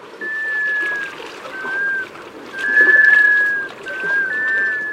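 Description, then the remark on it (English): The eerie, drawn-out wailing call of a male black scoter on a northern bay on a brisk November day: several long, sustained, eerily musical notes rise and hold one after another, carrying clearly over a soft background of lapping water. “On a brisk November day, a mysterious whale carries across the lead-gray surface of a northern bay. The notes are drawn out, eerily musical, and can be heard from far away.”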